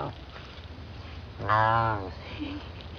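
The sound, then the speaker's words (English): An ocelot, a small wildcat, at a zoo in Belize gives a short, rough half-purr, half-growl rising out of a steady low rumble of background noise, a single fairly loud call lasting about half a second. “That half purr, half growl comes from an ocelot.”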